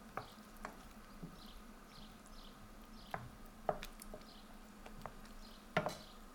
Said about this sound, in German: Ich rühre die Tomaten vorsichtig mit dem Holzlöffel unter.